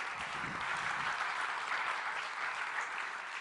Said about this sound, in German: Es sollte man eigentlich dem Herrn einmal einen Applaus geben, dass er so tolle Dinge macht, oder?